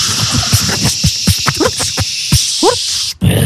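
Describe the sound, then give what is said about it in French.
A volcano said to hold not only lava but also combustion engines makes strange noises: a steady, loud high hiss runs throughout, broken by scattered sharp pops and thuds and a pair of quick rising whistles, then a brief dropout near the end. “C'est un volcan qui fait des bruits quand même un peu bizarres, hein, parce que faut savoir qu'il n'y a pas que de la lave dedans.”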